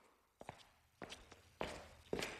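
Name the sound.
footsteps of someone walking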